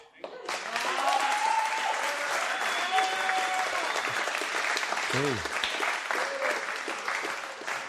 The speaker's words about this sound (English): Church treasurer gets a big cheer in this place.